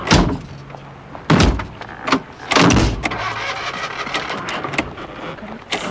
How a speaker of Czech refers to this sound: No to snad nemusíš rozmátit celý vůz. Dveře stačí lehce přivřít podle návodu. Zapadnou sami.